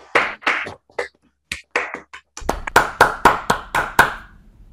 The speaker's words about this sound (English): Okay, so let's all unmute to give him a round of applause for his great talk.